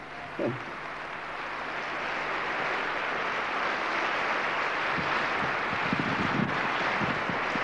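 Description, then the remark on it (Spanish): An audience breaks into strong applause for the Lord Jesus, a dense, steady wash of many hands clapping that builds quickly and keeps going for several seconds with no one speaking. “Ahora sí, demos un fuerte aplauso al Señor Jesús.”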